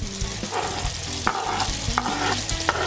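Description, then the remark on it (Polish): Onion and cherry tomatoes fry in butter, sizzling steadily in a hot pan with a constant crackling hiss, broken by a few sharp scraping and stirring knocks from a utensil, with no voices. “Cebulę razem z pomidorkami smażymy do lekkiego jej zarumienienia.”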